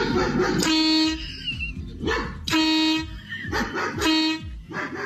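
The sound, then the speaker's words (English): A neighbor's dog barks in short, loud bursts, each bark followed or overlapped by a blaring car horn honk set off by the barking, the pattern repeating three times with no talking. “So my neighbor got a dog, and the damn thing barks. Non-stop.”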